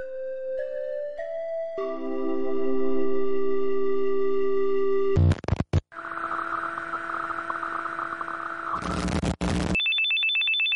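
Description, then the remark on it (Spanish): A mobile phone ringtone plays loud: rising electronic tones step upward, then hold in a sustained ringing melody, broken by a brief burst before ending on a high steady beep. “A ver, chiqui, si llamas a mi móvil, ¿quién te va a contestar?”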